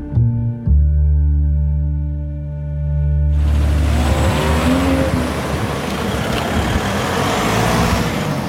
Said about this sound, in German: So, ihr merkt schon, ihr hört Straßengeräusche, Straßenbahngeräusche. Wir sind rausgegangen in Erfurt.